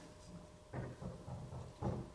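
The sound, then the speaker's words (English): A series of dull knocks on a wooden door, about five raps in an uneven rhythm, moderately loud, made by a person standing outside the door during a classroom demonstration. “Who's knocking on the door?”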